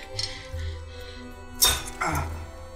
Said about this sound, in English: Now, why does she have to hammer that in? To, like, crack it open?